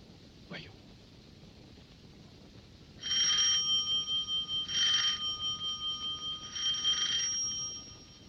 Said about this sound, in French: Numéro 3 de la rue Bergère, à droite sous la porte cochère. 3 coups de sonnette, on ouvrira.